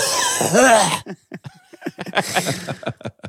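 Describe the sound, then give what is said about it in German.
A person imitates a grandfather's loud, harsh cough in one strained burst lasting about a second, distorted, followed by quieter talking. “Und dann auch so husten.”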